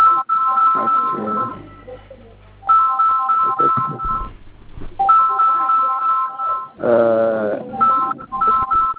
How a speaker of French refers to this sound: Éloignez-vous du téléphone qui sonne, s'il vous plaît.